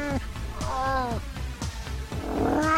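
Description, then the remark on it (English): A female feral cat in heat yowls over and over, several loud, drawn-out wavering meows in quick succession, with a low rumbling background throughout. “She meows all night, she wants a man cat from the street.”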